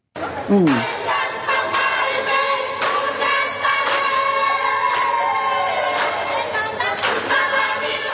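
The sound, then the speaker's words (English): A loud crowd at the Fiji airport celebrating as the Fijiana Indrua touched down after their Super W win, with voices singing and shouting together over steady, rhythmic claps or beats landing about once per second, the whole clip dense and energetic throughout. “This is the sounds that we heard in the Fiji airport as the Fijiana Indrua touched down.”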